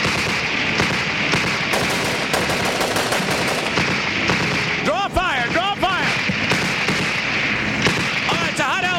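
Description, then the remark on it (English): Loud, sustained bursts of rapid machine-gun fire from a helicopter flying low over a crowd, strafing, rattling almost nonstop through a dense battle din, with shouting voices breaking through midway and again near the end. “And so we flew low over the crowd, strafing the enemy.”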